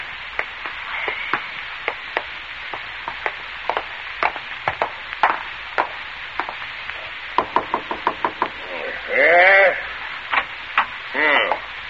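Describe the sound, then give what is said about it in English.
A long series of sharp, hard knocks on a front door, irregular in rhythm, some clustered in quick bursts, crisp, with a couple of short warbling tonal squeaks near the end. “Did I hear someone at the front door?”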